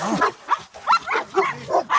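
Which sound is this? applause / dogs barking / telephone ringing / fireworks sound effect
dogs barking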